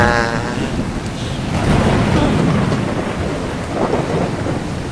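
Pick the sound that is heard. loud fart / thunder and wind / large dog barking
thunder and wind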